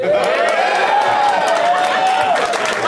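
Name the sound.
audience cheering and applauding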